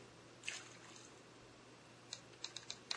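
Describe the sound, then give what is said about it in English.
Typewriter keys clacking: one soft strike early on, then a quick, uneven cluster of five sharp clicks toward the end, fairly quiet against a faint steady hum, with no voices. “That sounds like a typewriter to me. That is a typewriter.”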